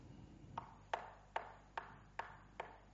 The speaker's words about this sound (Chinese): 咩声啊？呢个敲门嘅声就开门啦！